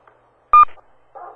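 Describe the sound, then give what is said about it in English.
A participant's dog on a group phone call gives a single short, loud bark with a sharp tonal ring, followed by quiet and then a softer, muffled burst of sound. “I hear a dog.”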